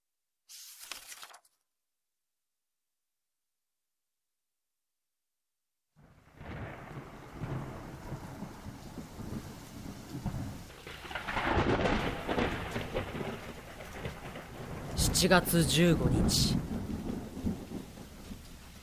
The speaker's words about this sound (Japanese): 7月15日雨、これだけ雨が降り続くと心地いいとさえ思えてくる。